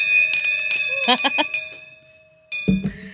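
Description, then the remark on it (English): A bell rings with a steady, lingering metallic tone that hangs through the whole moment, while voices chatter over it, then a louder burst of sound near the end. “My bell.”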